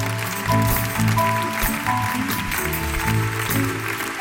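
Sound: audience applause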